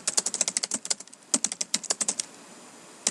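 Rapid keyboard typing, a steady run of crisp clicking keystrokes, pausing briefly before a final single tap. No voices are heard.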